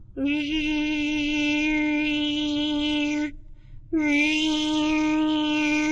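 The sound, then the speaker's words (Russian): A bee flies past, buzzing loudly in a steady, droning hum that lasts about three seconds, breaks off briefly, then resumes just as strong. No one speaks. “Мимо пролетала пчела.”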